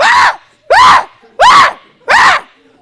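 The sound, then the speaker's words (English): A voice imitates a shrieking hungry baby with four loud, evenly spaced piercing wails, each rising and falling in pitch, separated by brief pauses, prominent with no other talk. “I mean, they just shrill, just shrieking, you know?”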